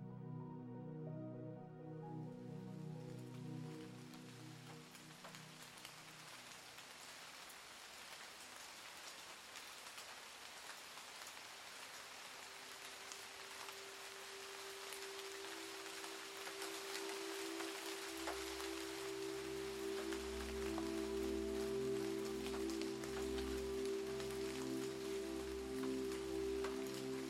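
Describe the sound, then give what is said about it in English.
Light, steady drizzle patters softly and continuously on the quiet streets of a small town early in the morning, with a gentle low tonal hum swelling in beneath the rain partway through. “Drizzling rain pitters and patters on the quiet streets of a small town.”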